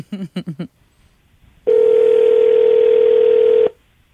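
telephone ringing tone

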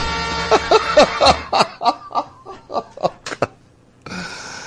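car horn honking

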